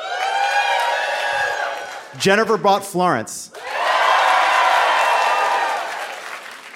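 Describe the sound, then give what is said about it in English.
A crowd shouting answers to a guessing question roars with cheers and applause, breaks briefly as a voice calls out a short phrase, then swells again into sustained loud cheering and clapping. “I disagree with the crowd.”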